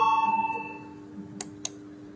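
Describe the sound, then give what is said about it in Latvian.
An electronic bell tone, rung in parliament to call a vote on a deputy's proposal, rings out at the start and lingers as a steady hum, followed by two short, sharp clicks amid otherwise quiet. “Paldies, lūdzu, zvanu.”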